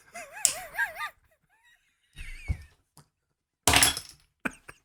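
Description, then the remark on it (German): A chair slides and bumps as the person sitting on it slips: a wobbling, squeaky scrape at the start, then a few irregular clunks and dull knocks with short pauses between them, and no one speaking. “Bin mit dem Stuhl verrutscht.”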